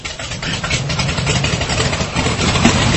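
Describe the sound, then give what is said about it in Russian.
An engine runs at a steady idle, a continuous low rumble with rough mid-range texture and no voices, holding an even level throughout. “Мастер, будьте добры, запустите мой двигатель.”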